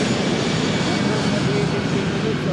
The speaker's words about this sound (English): We stop for a moment as a jet starts its final approach to land at Puerto Princesa Airport.